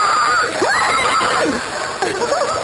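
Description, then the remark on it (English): A voice imitates pigs squealing: loud, high-pitched squeals with wavering, sliding pitch, running almost continuously for a few seconds with a brief dip near the middle. “Got these pigs. You tie them up to the tree. They go...”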